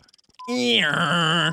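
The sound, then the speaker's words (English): A person vocally imitates a fax machine: a loud, sustained buzzy tone with a shrill high whine lasting about a second, preceded by a few faint clicks. “Fax machine? Yes.”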